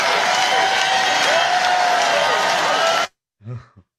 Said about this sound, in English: Only in the panhandle. But that, the clapping and the screaming and the wave of joy. Oh, yeah. That is disturbing.